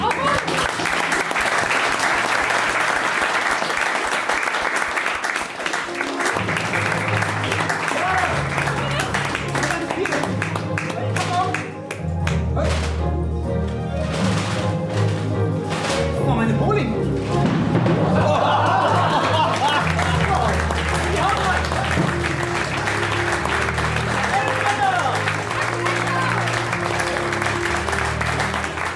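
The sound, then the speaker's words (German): A large audience at a magic show applauds steadily for about thirty seconds as two magicians perform a series of tricks, a dense wash of clapping with occasional laughter and cheering voices, while music plays loudly underneath through the middle. “Axel Heckler und Alice in Wonder feuern eine Salve an Zaubertricks und bringen das Publikum nochmal richtig auf Hochtouren”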